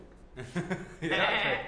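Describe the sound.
A human voice mimics a sheep, impersonating another man talking like a sheep, letting out a wavering, nasal bleat in a few quick pulses that swell into a longer, louder baa, clear.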